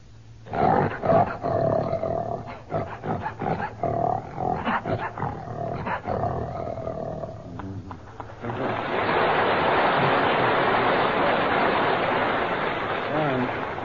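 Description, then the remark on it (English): A man imitates a lion with a series of loud, rough growling roars in short bursts, followed by a steady wash of noisy hiss for the last few seconds. “That lion doesn't mean a word of it.”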